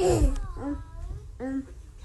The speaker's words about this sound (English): It's like a gasp. And it doesn't seem to be related to his breathing. I've like listened and he seems to be breathing just fine.